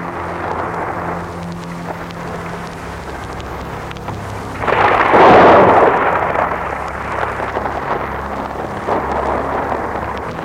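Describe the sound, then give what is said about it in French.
A deep roll of thunder from a storm outside swells midway through, loud and broad, over a constant background hiss of rain, then slowly fades back into a lingering low rumble. No one speaks. “Dehors, l'orage gronde toujours.”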